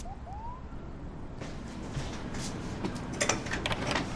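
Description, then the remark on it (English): A brief electronic buzz of a door buzzer at Boone's front door sounds, followed by the rattle and clatter of the front door being unlatched and pulled open as he answers, with no one speaking. “Later, she presses the buzzer at Boone's front door. He answers, looking disheveled, his chest exposed by a half-zipped hoodie.”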